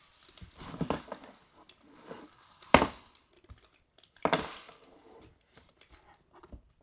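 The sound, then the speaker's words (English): A rainmaker rain stick, a music instrument, being shaken, giving soft rattling patter followed by two loud, hissing bursts of cascading beads, with quieter gaps between and no talking. “Rainmaker.”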